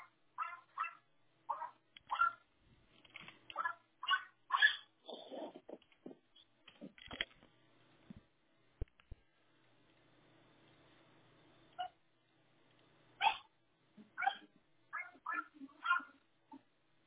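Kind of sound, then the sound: animal, dog barking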